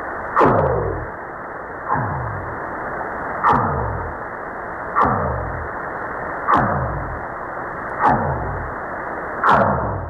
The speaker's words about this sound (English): It's a rare whale. It's called the Eastern Pacific right whale, and it's they say there's less than 30 of them left on the planet.